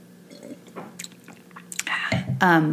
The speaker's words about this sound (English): Excuse me, I need a sip.